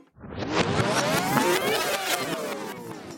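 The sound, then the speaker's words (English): A dead car engine strains and whirs as it tries to start, its pitch sweeping up and down in a loud, continuous grind with no voices. “Something like jumping a dead car engine, you know, after you've drained it of its oil.”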